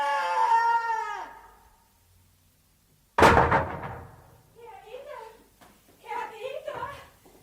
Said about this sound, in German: Jetzt hat er die Schubladen runtergeschmissen.